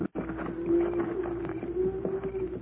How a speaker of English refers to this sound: Cattle are coming this way. Pancho, hear the cattle, Cisco. Now, just why are those cattle moving at this time of day?